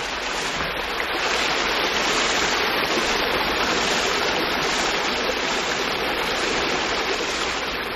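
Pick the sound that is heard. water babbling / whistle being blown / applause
water babbling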